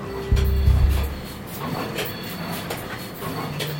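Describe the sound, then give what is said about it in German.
Industrial machinery noise in a Meyer Burger solar cell factory hall of about 11,000 square meters: a heavy low rumble swells at the start and fades after a second, leaving a steady mechanical hiss with faint hum tones and occasional soft clanks. No one speaks. “So, dieses Geräusch erkennen wir natürlich gleich wieder, unsere Lokomotive, die Solarzellenfabrik.”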